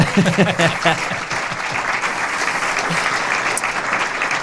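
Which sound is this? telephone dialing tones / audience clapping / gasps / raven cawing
audience clapping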